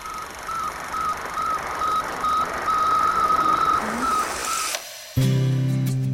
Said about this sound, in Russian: Слушайте радиосигнал, передаваемый спутником. Слушайте сигнал, который навеки отделил старое от нового.